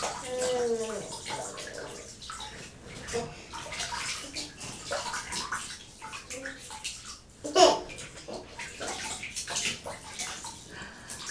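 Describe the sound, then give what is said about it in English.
Water splashing and sloshing in a bathtub, steady and close, with a young child babbling and chattering over it and one brief louder splash near the end. “that water was falling everywhere.”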